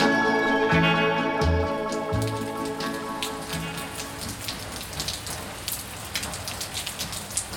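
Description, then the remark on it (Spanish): A persistent light drizzle, falling for several days over the fishing town of Caibarién at dawn, patters steadily on a surface, with scattered sharper drops throughout; a soft tonal hum at the start fades away, and no one speaks. “Una pertinaz llovizna hace varios días mantiene la ciudad paralizada para los pescadores, tiempo que aprovechan para revisar los avíos de pesca y reunirse para comentar los últimos sucesos ocurridos en alta mar.”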